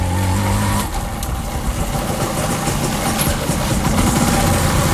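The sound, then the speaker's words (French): A motorcycle engine runs at a steady low rumble, idling and shifting slightly in pitch as it slowly maneuvers into a car park on arrival at an international conference venue, with no voices present. “Nous sommes arrivés au sein de conférence internationale, mais je vais garer ma moto au parking.”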